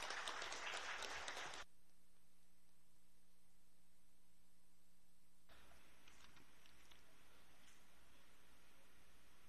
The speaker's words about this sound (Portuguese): E eu gostaria de uma salva de palmas para a nossa atleta.